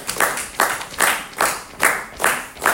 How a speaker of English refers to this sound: So if this is the half note, can you pulse or tap or clap half notes with me? Like this? Good.